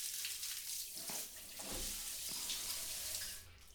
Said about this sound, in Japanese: まだ外雨だし。止むまでずっといてあげる。